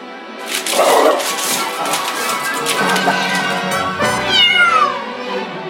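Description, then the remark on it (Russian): A large dog barks loudly in rapid bursts as it chases a small cat that yowls and meows, the two animal sounds overlapping in a noisy commotion with no one talking. “И увидел большущего пса, который с громким лаем гнался за маленькой кошкой.”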